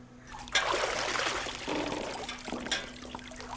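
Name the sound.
water splashing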